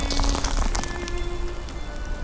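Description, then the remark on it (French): Footsteps crunching over thin, flaky ice very early in the morning, a dense, continuous crackle of brittle snaps and ticks at a steady moderate level, with no voices. “Ce matin, très tôt, j'ai marché sur la glace fragile et feuilletée. Sous mes pas naissait ce chant crépitant, élémentaire, qu'on entend aussi avec la peau.”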